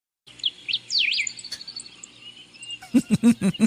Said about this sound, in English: There are birds in the background, we know.